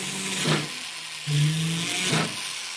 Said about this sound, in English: drills a hole in a piece of silver, in which he'll later set a jewel.